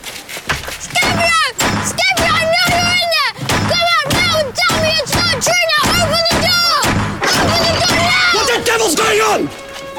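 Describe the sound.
A heavy brass door knocker on a villa bangs loudly over and over in a fast, steady series of about a dozen blows, with a wailing, shouting voice rising and falling over the knocks.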